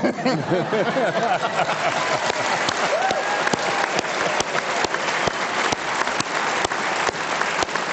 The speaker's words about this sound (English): That's what they call in the business a cheap applause button.